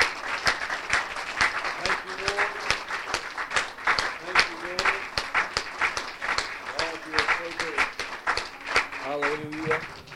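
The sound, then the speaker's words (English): A church audience claps steadily for ten seconds, a dense, continuous patter of many hands, while voices call out over the applause, giving God a hand clap of praise and thanksgiving. “Can we just give Him a hand clap of praise and thanksgiving today?”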